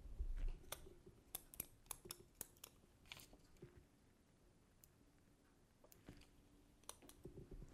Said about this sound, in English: Sometimes I get to what do I do with my pen? Typing too fast.